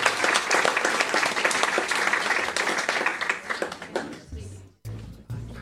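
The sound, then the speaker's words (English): A crowd applauds to thank the authors at a book event, with dense, overlapping clapping for about four seconds. Then the applause thins out and fades as a voice begins speaking. “Join me in a round of applause to thank our authors tonight.”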